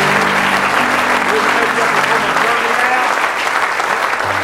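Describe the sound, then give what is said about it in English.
An audience claps steadily in praise, a dense, loud wash of many hands sustained the whole time, with faint voices and a low tone murmuring underneath. “Give him a good hand clap of praise tonight.”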